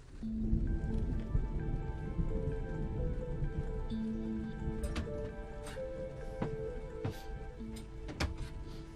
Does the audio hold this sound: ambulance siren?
no